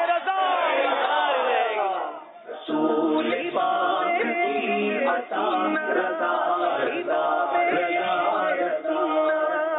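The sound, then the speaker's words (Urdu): A large crowd shouts in unison in response to a slogan, a loud sustained collective chant that swells, dips briefly, then surges again in repeated rhythmic bursts. “نعرے کا جواب دیں”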